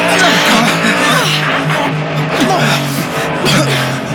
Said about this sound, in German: Mit Höchstgeschwindigkeit raste das flüchtende Fahrzeug nun direkt auf die Rennpiste zu.